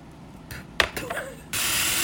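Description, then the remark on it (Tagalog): A spray bottle spritzes onto a person's face: a few short clicks and puffs, then a steady, bright hiss of mist that continues to the end, with no talking. “Try natin yung walang setting spray.”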